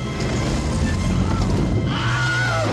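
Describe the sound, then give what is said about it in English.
The Wilhelm stock movie scream in Raiders of the Lost Ark: a brief, high-pitched male scream rises and falls near the end, cutting through a dense wash of loud crashing, rumbling action-scene noise. “But how did this spread like wildfire and become the most iconic movie scream in history?”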